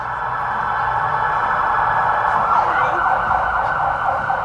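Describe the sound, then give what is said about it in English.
An emergency vehicle siren wails steadily and fairly loudly from outside, holding a constant tone throughout with a low rumble of traffic underneath and no talking. “And there's those sirens again.”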